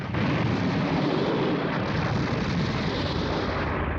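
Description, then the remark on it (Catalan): A huge, sustained explosion, which launches Goku into the sky as a ship is shot down by planes, roars without letup, a thick wall of rumbling low-end noise and crackling debris, loud from start to finish, with no voices present. “Una gran explosió llança en Goku disparat cap al cel.”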